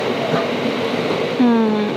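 Steady rail rumble fills a train platform with people on it, then a loud, drawn-out tonal squeal or horn cuts in near the end and slowly dips in pitch as a train passes.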